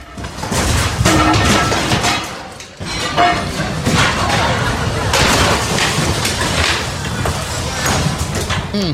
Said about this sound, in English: but here is the sound. Literally, this is furniture just rolling around while people are waiting to go into port.